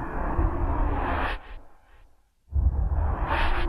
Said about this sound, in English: Now these are I called opium whooshes, which are just used for transitions to get in and out of other sounds.